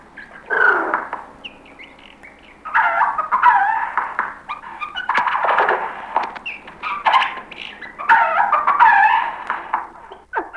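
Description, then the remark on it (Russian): A jay runs through mimicked animal sounds, dog-like yelps and whimpers mixed with harsh chattering calls, delivered in several loud bursts with short pauses between them. “Сойка, которая может быть одновременно курицей, собакой, еще бог знает чем.”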